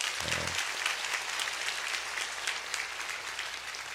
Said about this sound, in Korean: 우리 큰 박수로 격려하십니다.